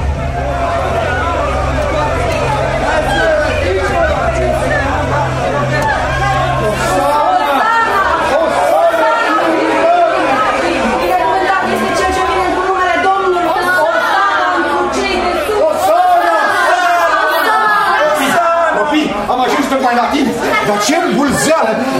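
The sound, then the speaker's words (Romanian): A large crowd gathered at the gates of Jerusalem chatters and shouts over one another in a dense, continuous babble of overlapping voices, with a low rumble underneath during the first seconds. “Iar la porțile lui s-au adunat mulțimi de oameni care ți-s înainte strigând, Doamne!”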